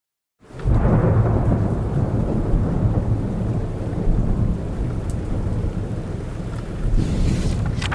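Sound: thunderstorm with heavy rain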